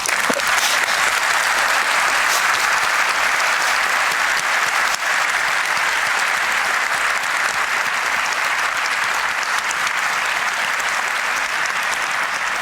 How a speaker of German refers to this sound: Ja, also so wie ihr geklatscht habt, das Internet hat auch schon Feedback gegeben, da gibt es zwar keine Fragen, aber ganz viel expliziertes Lob.